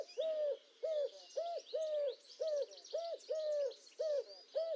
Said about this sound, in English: Adrian Thomas, along with the sounds of the collared dove and before that the wood pigeon, on RNIB Connect Radio.